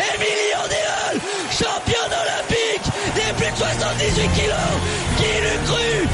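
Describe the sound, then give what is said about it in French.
A French female athlete, lying on her back after becoming Olympic champion, screams with joy, loud, in repeated bursts over a roaring, cheering crowd that keeps up a dense wall of shouts and yells throughout. “Elle est sur le dos. Elle hurle de joie.”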